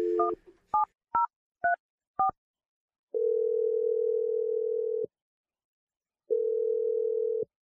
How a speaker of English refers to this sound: Well, I'm going to dial Kenny's number and let you tell him what you did. Make your Awkward Tuesday phone call. Here we go.